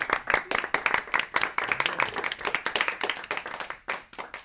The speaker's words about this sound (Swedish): Ja, en applåd behöver det.